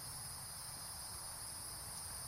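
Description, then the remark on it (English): Cicadas buzz in a steady, unbroken high-pitched drone, fairly quiet, with no voices or other noises over it. “We hear I believe they're cicadas.”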